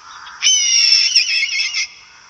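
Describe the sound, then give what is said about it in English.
A red-tailed hawk gives one long, hoarse, raspy scream lasting over a second, loud, with faint background hiss before and after and no voices. “It's a red-tailed hawk.”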